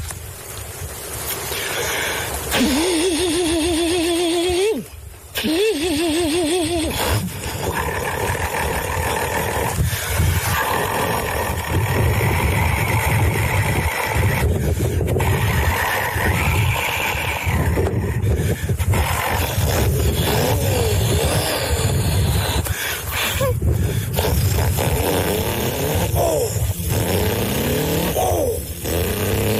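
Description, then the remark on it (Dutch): A man imitates a diesel truck with his voice: a loud, continuous rumbling engine drone with rising revving tones and gear-shift-like changes, sustained for about half a minute without any words. “Man-made diesel truck.”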